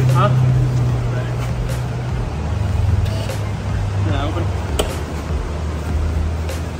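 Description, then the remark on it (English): A car engine idles loudly and steadily with its exhaust valves opened, its deep throaty rumble holding a constant low drone throughout, with faint voices murmuring in the background. “Once that started up, then see if it's open.”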